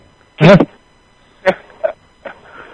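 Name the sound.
dog barking and yipping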